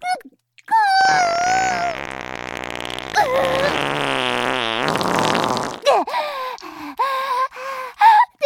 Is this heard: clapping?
no